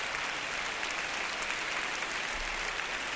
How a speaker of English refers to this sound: As you can hear, cheers as well as applause from this Orchestra Hall audience, which is now standing in tribute to Mr. Kubelik. Again, he asked the orchestra to stand. Again, they remained seated, and applauding him more vigorously than ever.